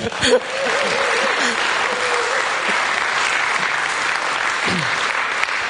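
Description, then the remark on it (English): Sustained audience applause for the ladies who run River Life, a dense steady patter of many hands clapping for several seconds, with faint voices and a few cheers mixed in underneath. “Oh, let's clap.”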